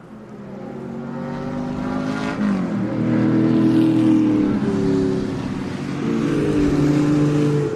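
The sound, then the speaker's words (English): A Volvo P1800 classic race car engine revs loudly and steadily, its droning pitch climbing then dropping with a couple of apparent gear changes; no voices are present. “It's almost frightening to see them race.”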